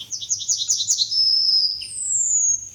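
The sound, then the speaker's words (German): A yellowhammer sings: a quick run of repeated high, slightly buzzy notes followed by two long drawn-out whistles, the last one higher, with a low hum beneath. “Ja, ich will einfach nur die Goldammer hören.”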